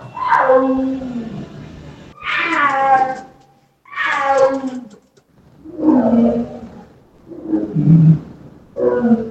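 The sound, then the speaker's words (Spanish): A big cat, a tiger or jaguar, roars over and over, about six drawn-out, harmonic yowling calls in quick succession with brief pauses between, loud with no other sounds. “Para mí es un tigre o un jaguar.”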